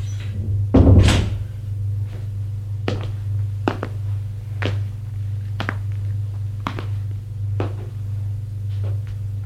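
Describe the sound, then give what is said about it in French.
A room door shuts with a single heavy thud, then sharp clicking knocks follow about once a second over a steady low hum. No one speaks. “Porte de la pièce.”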